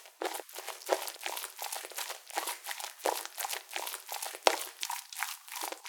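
A chest rubbing against the listener's ear: steady, scratchy swishing and crinkling friction in uneven repeated strokes, fairly loud and hissy, with no voice present.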